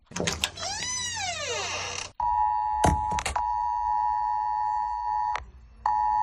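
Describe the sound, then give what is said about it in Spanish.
A mobile phone emergency alert: a loud, harmonic-rich tone first swoops up and down in pitch, then holds a steady piercing beep. A few sharp knocks briefly cut through it. “Así sonaba. Así sonó.”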